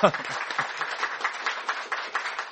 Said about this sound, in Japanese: 初めて来られた方、心から歓迎いたします。初めて来られた方はいらっしゃいますかね。今日初めて来られた方いらっしゃいますか。あ、もうじゃあ拍手で迎えます。